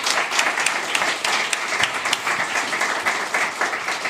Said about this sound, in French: On applaudit aujourd'hui monsieur Mathieu Madénian, s'il vous plaît.